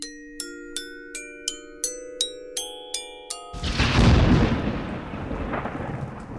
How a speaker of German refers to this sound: Auch ein Geräusch hat seine Klangfarbe. Die eines Donners ist eher dunkel.